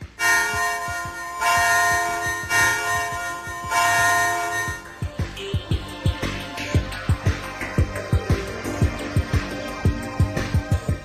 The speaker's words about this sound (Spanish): La habrás oído sonar. Piensa, medita, recuerda. ¿Qué instrumento musical no tiene más que una cuerda? La campana.